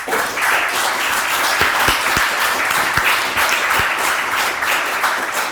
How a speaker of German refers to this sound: Vielen Dank schon mal vorab an die Tabletop Freibeuter und unser Haus in Bergedorf. Denn die veranstalten das Ganze. Hier haben wir einen fetten Applaus.